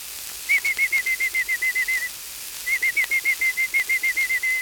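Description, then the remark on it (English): A person whistles an imitation of a robin's chirping: two quick runs of about a dozen short, evenly spaced chirps each, separated by a brief pause, clear, with no talking. “A robin chirps through the day this way.”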